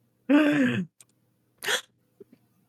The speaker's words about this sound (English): We had to wait for the gasps first because the movie did that twice.